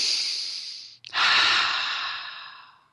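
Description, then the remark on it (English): People with eyes closed take a deep breath: a long, airy intake of breath, a brief pause, then a slow, heavy exhale that fades out; fairly loud, with no talking. “Now, I want you all to close your eyes and take a few deep breaths.”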